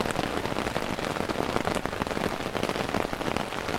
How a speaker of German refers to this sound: Heute regnet es.